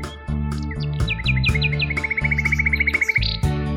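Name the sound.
nightingale singing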